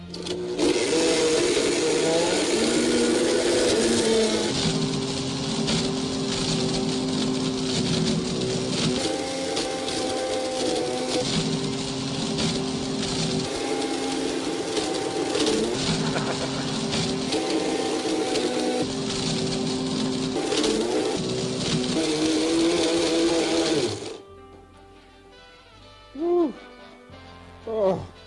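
A BlendTec Total Blender, started with its iBlend button, roars loudly for about twenty-four seconds, its motor pitch stepping up and down as it grinds and crunches an iPad, then cuts off, leaving a few faint brief sounds.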